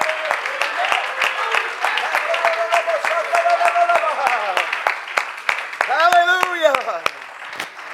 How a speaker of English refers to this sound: Woo! Come on, why don't you clap your hands right now? Hallelujah.